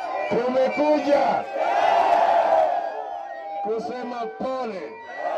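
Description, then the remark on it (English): A large crowd at a Kenyan opposition rally of Raila Odinga and his NASA coalition cheers and shouts with enthusiasm, a dense roar of many voices rising and falling, with whoops and chanting-like bursts standing out above the steady din. “But Odinga and his NASA coalition members say that the election was stolen from them and reiterated that position to the enthusiastic crowd.”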